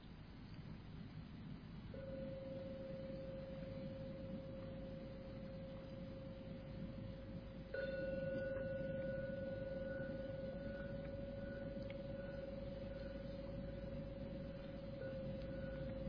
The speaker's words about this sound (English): So we're coming towards the end of the meditation. Just see if you can see any change in the peacefulness of the mind. And I'll ring the gong 3 times. You can open your eyes when you're ready.